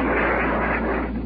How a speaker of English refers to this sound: Heavy fire from the naval warship. As well as 20-millimeter and 40-millimeter tracer. With the sounds you just heard, perhaps the burst or two of the bombs.